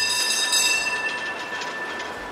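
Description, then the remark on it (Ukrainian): A tram rumbles along city rails in the centre of Lviv, Ukraine, in the very early morning, with a steady metallic grind and faint squealing, continuous throughout, with no voices. “Найприємніший час у Львові – дуже-дуже ранній ранок, коли тільки трамваї і туристи гуркотом коліс своїх валіз розривають абсолютну тишу.”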